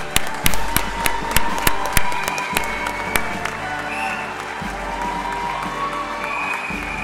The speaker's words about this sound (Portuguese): Palmas a todos os destaques.